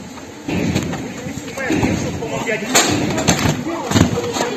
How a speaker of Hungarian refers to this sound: A helyszínen videó is készült az ablakokon kiugró emberekről, miközben a háttérben a lövések zaját is hallani.